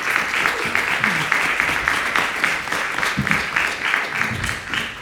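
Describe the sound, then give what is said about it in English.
An audience claps steadily for about five seconds for the panelists of a panel event, a dense, even burst of applause with a few faint voices mixed underneath. “Let's give our panelists a round of applause to me.”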